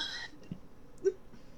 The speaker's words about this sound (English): Hiccups.